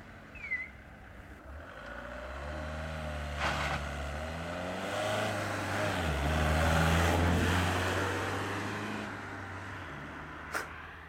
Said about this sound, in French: C'est comme ça, le matin, quand il y a le marché des bras, c'est comme ça, il y a des voitures qui arrivent et ils chargent jusqu'à 10-12 personnes dans la voiture.